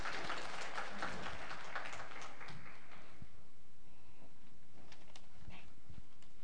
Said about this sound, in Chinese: 有点紧张，他们有点紧张，大家鼓励一下，来点掌声。